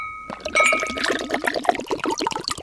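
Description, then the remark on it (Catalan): Mistela being poured into a glass, a quick run of bubbling glugs and splashes for a couple of seconds, with a faint ringing tone from the glass and no talking. “Doneu-li un glopet de mistela que baixi l'arròs.”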